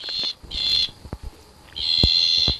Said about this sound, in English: For instance, the slender bleating tree frog here.